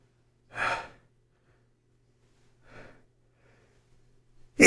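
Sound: sneeze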